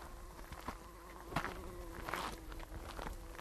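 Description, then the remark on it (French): A steady, droning hum of many bees at work around lavandin, with a low continuous tone and a few louder passes swelling and fading, plus faint rustling underneath. “On a ce chant des abeilles qui continue, même s'il y a beaucoup moins de lavandin, mais c'est pas grave, elles sont là.”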